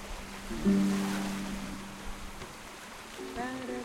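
A soft, steady wash of ocean water laps around a sailboat about 20 meters long, anchored about a kilometer off the coast of Tobago in the southern Caribbean, on a sunny day above 30 degrees with a light, even breeze. The sound is continuous, with brief humming, voice-like tones rising above it twice.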